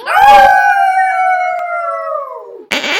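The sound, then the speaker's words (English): Bulldogs let out a long, loud howl that holds steady for a couple of seconds and then slides downward as it fades, ending with a brief burst of noise. “It's the Wolf stateside here with the Wolf Cub and the Bulldogs. Give them a shout.”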